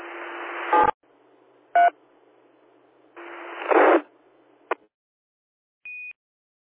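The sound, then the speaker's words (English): A few short bursts of DTMF keypad tones sent over an amateur radio link to disconnect from a reflector as the net shuts down, each wrapped in brief squelch noise, ending with a single clean high beep; no one speaks. “This is Victor Echo 6, Mike Sierra Hotel, disconnecting the reflector.”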